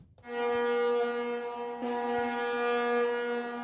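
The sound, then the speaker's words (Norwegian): A large ship's horn sounds one long, loud blast, a steady deep tone with rich brassy overtones that briefly swells partway through before holding to the end. No one speaks. “Det som skal frakte oss til Eliteserien, det er en jævla svær båt.”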